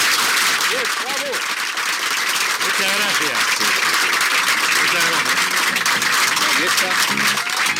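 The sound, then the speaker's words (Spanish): Loud, sustained applause from a crowd of 5,000 people welcoming a guest, a dense wash of clapping filling the whole stretch, with a man's voice speaking briefly over it. “Estos son aplausos de verdad, no esos aplausos ya que te daban en la televisión argentina y que contabas, pare ya, señora.”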